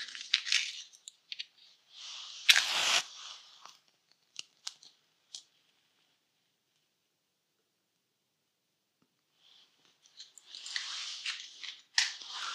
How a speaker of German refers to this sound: Wir feiern eine kleine Liturgie. Zu Beginn zünde ich eine Kerze an.